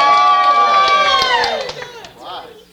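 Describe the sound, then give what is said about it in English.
A small audience cheers and whoops together for a member's birthday, their high voices sliding downward in pitch, with a few sharp claps mixed in before the noise trails off into quieter chatter. “We can cheer for”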